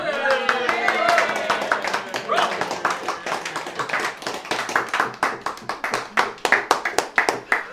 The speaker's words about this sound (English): Need a round of applause, surely.